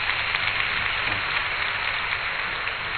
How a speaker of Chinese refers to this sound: 我哋最後學到任何嘢，我哋鼓掌，多謝神啊！